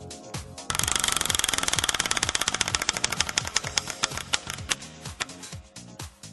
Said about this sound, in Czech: Teď poprosím moji asistentku, aby zatočila poprvé kolem štěstí.